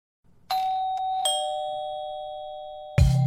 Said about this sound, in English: And I remember I wrote in bold in the email invitation, please ring the bell to get in, because I was hosting and I didn't want to have to keep checking my phone all night.